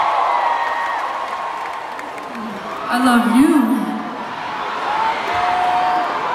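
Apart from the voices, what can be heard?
concert crowd cheering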